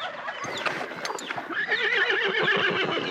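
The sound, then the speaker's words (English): A horse neighs loudly, a long whinny with a shaky, wavering pitch that rises and then trembles over about three seconds, with no other sounds around it. “A horse.”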